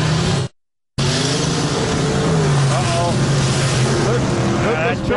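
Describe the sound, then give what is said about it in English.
Loud engines of a truck and a jeep roar continuously after a brief moment of silence, their pitch rising and sweeping as they rev hard while racing each other; the truck wins. “That truck came back and won. Beat the Jeep.”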